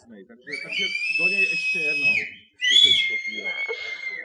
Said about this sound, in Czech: Je tady ten člověk, který údajně umí pískat?